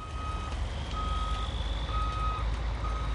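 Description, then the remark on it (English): A construction vehicle's reversing alarm beeps steadily in long, evenly spaced high-pitched tones over a deep rumbling engine drone, with no voices, as a construction crew puts the final touches on a big new freeway on-ramp. “Behind Platt, a construction crew is putting the final touches on a big new freeway on-ramp.”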